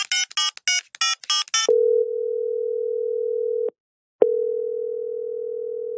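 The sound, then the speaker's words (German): A rapid series of telephone keypad beeps, followed by a long, steady outgoing call tone that briefly pauses and then resumes, clear with no voices. “Komm, die rufen mal an.”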